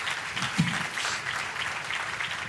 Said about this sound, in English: Can you guys give a round of applause to the Lord? ¿Le pueden dar un aplauso al Señor? Gracias.